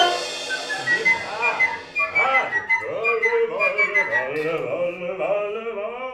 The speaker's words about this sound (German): Ja, Goethes Zauberlehrling, aber mit Dukas versetzt. Ihre Sängerinnen und Sänger vom Kammerchor Nicolas See müssen hier pfeifen. Die und dann auch noch ohne mich zu sehen, nämlich hinter der Wand.